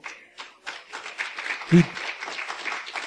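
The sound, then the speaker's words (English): A church audience breaks into applause for Jesus during a sermon, the clapping building from a few scattered claps into a steady, dense patter, with one sharp low thump near the middle and faint voices mixed in. “Jesus deserves to be clapped for.”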